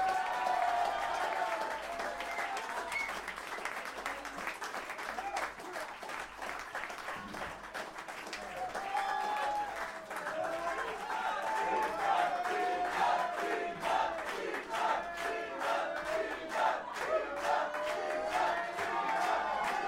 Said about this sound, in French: Applaudissez-vous, vous étiez merveilleux.